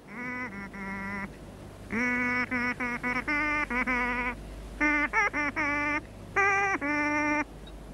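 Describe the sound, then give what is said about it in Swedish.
Loud honking distress signals in rapid bursts, grouped into several uneven runs of short blasts with brief pauses between, over a low background rumble. No voices. “Hör, säger lilla Skutt. Nödsignaler.”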